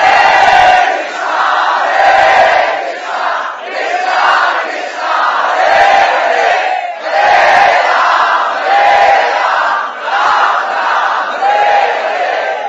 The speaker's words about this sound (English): They tried it. And the devotees just roared louder the holy name.